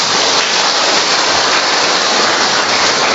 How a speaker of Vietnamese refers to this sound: Thưa anh chị em, trước tiên chúng ta cùng vỗ một tràng pháo tay thật lớn.